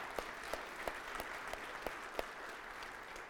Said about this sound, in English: So I think that's like we got to clap for that because this has been a long time in coming.